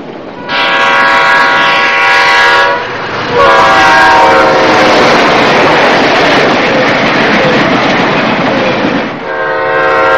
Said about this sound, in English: Your attention, please. Now arriving in the track train number 573.